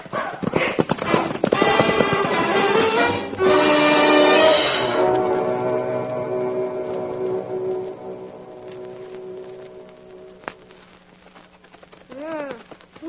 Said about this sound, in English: Now, let's not waste any more time. Start them horses. Let's ride here.